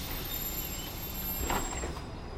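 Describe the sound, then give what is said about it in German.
A city bus rumbles in at a stop in Kreuzberg, Berlin, its low engine drone steady throughout, with a brief burst of air-brake hiss partway through. Moderately loud, with no voices. “Entschuldigung, fährt dieser Bus zur Gneisenaustraße?”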